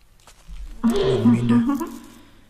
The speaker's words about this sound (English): Didn't mean to burp like that.